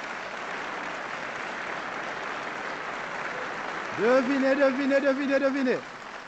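Steady, dense audience applause fills the whole recording, and near the end a loud sustained wavering call rises over it for a couple of seconds before the clapping continues alone.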